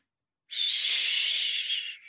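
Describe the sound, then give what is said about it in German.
After a brief silence, one long, strained wheezing breath rasps, fairly loud, harsh and airy: a baby girl only a few weeks old struggling to breathe. “Ruhig atmen. Sie bekommt nicht richtig Luft.”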